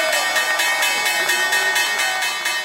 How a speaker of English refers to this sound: Harlem Globetrotter Big Easy Lofton is pressing the button that rings the bell. With his other hand, he's spinning a ball on his index finger. Lofton's supposed to ring the opening bell for 10 seconds. The closing bell rings longer.